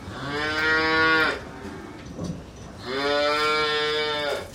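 dairy cow mooing

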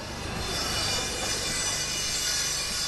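construction site noise

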